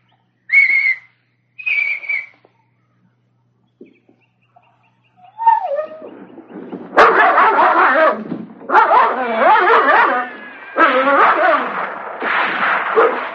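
Two short, high signal whistles sound, then after a pause a dog named Turk erupts into loud, frenzied barking, growling and snarling that continues in rough, overlapping bursts as it goes after a man.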